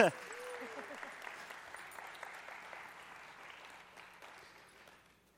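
A room full of people claps steadily, a dense crackle of applause that holds for several seconds, then thins and fades out, with a brief vocal sound at the very start.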